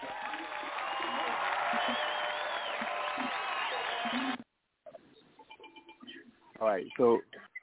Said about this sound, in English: Also, we'll do applause.